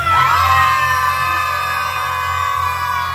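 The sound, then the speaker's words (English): A large crowd screams together on a count of three, in one loud, sustained roar that swells at once and holds steady for several seconds, dense, with no individual words. “One, two, three. Scream.”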